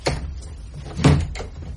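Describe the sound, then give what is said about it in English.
A door swings and shuts with a solid wooden thud, preceded by a lighter knock of the latch, fairly loud amid otherwise quiet surroundings. “Come on in. Shut the door.”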